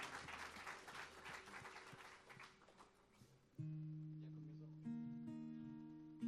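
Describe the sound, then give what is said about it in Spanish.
An audience applauds the Lord Jesus in a dense, steady wash of clapping for about three seconds, then it fades as loud sustained keyboard chords take over and hold to the end. “Aleluya, aplauda al Señor Jesús.”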